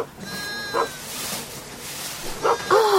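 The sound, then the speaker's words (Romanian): A few short, sharp barks from guard dogs watching over a flock of sheep burst out among the bleating sheep, the wavering bleats rising and falling around the louder yelps toward the end. “O turmă de oi păzită de dulăi.”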